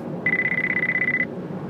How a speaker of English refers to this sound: Phone's ringing.